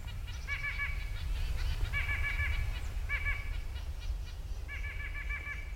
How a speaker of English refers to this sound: So that's where nuthatches came in. Here are several upside-down birds right now, strolling trees in the neighborhood.